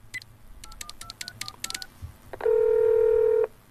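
telephone dialing tones

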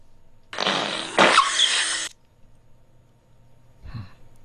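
human fart

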